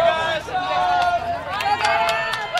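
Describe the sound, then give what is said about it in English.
A lively crowd of jubilant supporters around candidate Ossoff chatters and calls out, a dense, fairly loud babble punctuated by a few sharp bursts. “Ossoff just wrapped up an interview with the BBC when I caught him in the middle of this crowd of jubilant supporters.”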